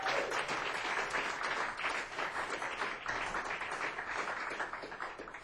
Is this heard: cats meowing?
no